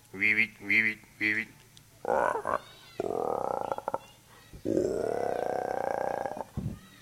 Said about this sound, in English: Frogs of all kinds.